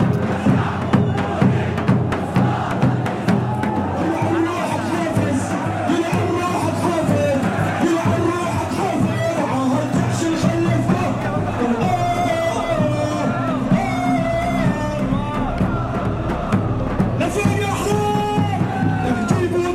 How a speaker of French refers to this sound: Et tous regardent dans la même direction vers une tribune, une estrade qui a été montée, sur laquelle un jeune chanteur depuis tout à l'heure hurle des chants de la révolution syrienne, des chants que la foule connaît déjà par cœur.